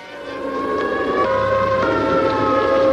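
A civil defense take-cover siren sounds in Times Square, New York, during an Operation Alert civil defense drill, a loud, sustained, steady wail, swelling slightly in the first moment and then holding its pitch with only small shifts, with no voices.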